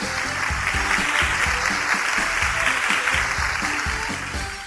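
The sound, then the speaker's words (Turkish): Steady, dense crowd applause fills the space, with a few voices faintly mixed in beneath the clapping throughout, applauding a correct quiz answer. “Alkışlayalım o zaman”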